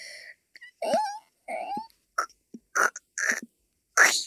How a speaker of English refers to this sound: Wait, could it be a dinosaur egg? I think it might be starting to hatch. The chirping sound? I don't know what it is, but it's starting to hatch.